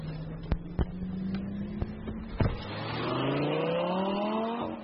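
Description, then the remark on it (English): An orange Lamborghini sports car engine in China idles with a low steady drone and a few sharp pops, then revs hard and climbs in pitch as it accelerates, loud, with no talking. “Needless to say, this is my first time in a Lamborghini, let alone an orange Lamborghini.”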